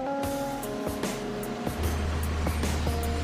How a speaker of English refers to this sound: This industrial dryer spins the coal at high speed until excess water is removed.